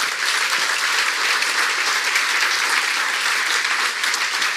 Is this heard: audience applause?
yes